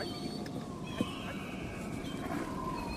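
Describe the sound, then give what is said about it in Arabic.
A camel groans and bellows in long, drawn-out tones over a rough, noisy outdoor background, with a brief sharp knock partway through; no one speaks. “شو عندكم بوش ولا غنم؟ بوش ها؟”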